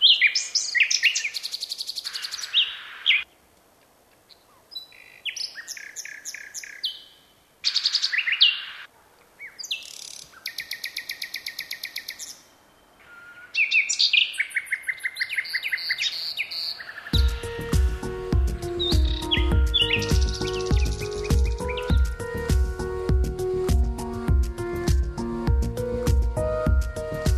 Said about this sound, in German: Nachtigall, ich hör dir singen.